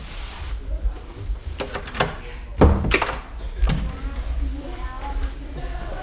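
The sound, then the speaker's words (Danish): A door is pushed shut with a solid thunk, preceded by a few short clicks and rattles of the handle and latch, with faint murmuring. “Ved du hvad, så lukker jeg døren igen.”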